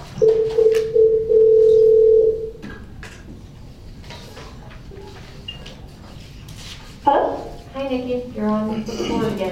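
A steady, loud telephone dial tone hums for about two and a half seconds while calling someone back, then cuts off, followed by quieter background noise and some indistinct chatter and clatter.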